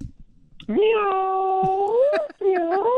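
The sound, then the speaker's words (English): A person's voice imitates a cat, giving a long drawn-out meow that rises and bends in pitch, briefly breaks, then resumes for a second loud meow. “Meow. Was that good? I wasn't really that good. I practiced before and it didn't really go as planned.”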